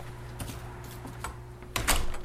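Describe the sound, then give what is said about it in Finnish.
A heavy soundproofed door with a keypad lock shifts with a few soft clicks and knocks, then a louder scraping thud near the end, all over a steady low electrical hum; afterwards the door will not open. “Ovi on ääni eristetty. Sanoitko te jotain? Halo? Scheisse. Nyt se ei aukea.”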